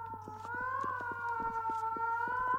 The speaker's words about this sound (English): Parthenope's call, her siren song. Is it so called because it resembles an alarm klaxon? It is beautiful.